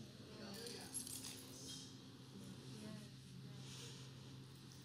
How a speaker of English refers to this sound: Rattle them at the devil. We got the keys. There you go. Somebody's got their keys. There you go.